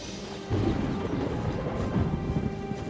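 Steady rain pours down continuously, a dense hiss with a low rumbling undertone that swells slightly after the first half second and holds without voices.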